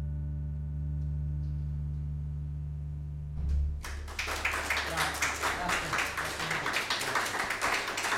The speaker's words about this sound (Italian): Grazie a tutti, grazie. Dopo un minuto di applauso.